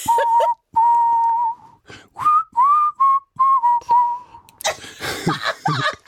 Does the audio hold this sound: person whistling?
yes